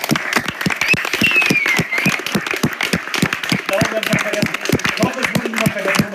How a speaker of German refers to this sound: Ja, und das ist auch der zahlenmäßigste, dickste Block von Leuten, die hier die Sachen möglich machen. Deswegen nochmal dicken Applaus.